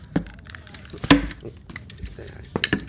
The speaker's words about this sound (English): Why are you taking apart that blender? Oh, this, wait, this is a blender? Yeah.